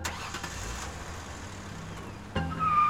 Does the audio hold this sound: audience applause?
no